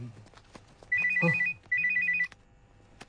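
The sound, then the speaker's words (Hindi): A phone ringtone plays two short bursts of a bright, repeating electronic trill, each lasting about half a second, with a brief pause between them. It sounds clear, with no talking. “अरे एक मिनट मैं फोन अटेंड करके।”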